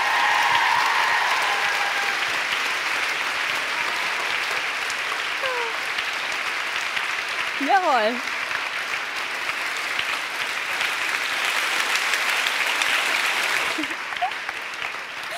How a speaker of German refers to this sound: Gib diesem Wunder mal einen donnernden Applaus.